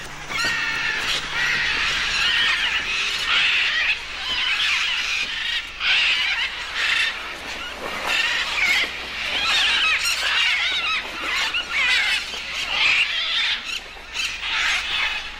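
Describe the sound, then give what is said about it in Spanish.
A dense chorus of harsh, screeching calls from a large flock of macaws and parrots gathering at clay cliffs along the Manu River in the jungle to eat the clay, overlapping continuously and loudly for the whole stretch with no voices. “Casi todas las mañanas, grandes grupos de guacamayos y loros se acercan en busca de un alimento curioso.”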